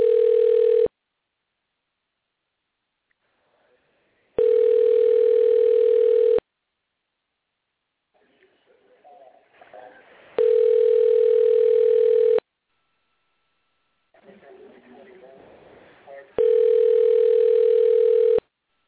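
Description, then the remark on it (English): A steady electronic ringback tone sounds in four loud two-second bursts with long pauses between them, the ring of a call going unanswered, while faint muffled noise and murmuring fill some of the gaps. “Nobody's home? Nobody's answering tonight.”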